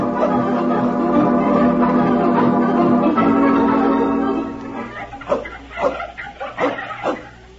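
A dog whines in a long, drawn-out, wavering tone for several seconds, then breaks into a handful of short, sharp barks.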